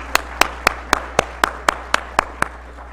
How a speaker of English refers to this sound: And you say, what? Yeah, clap your hands.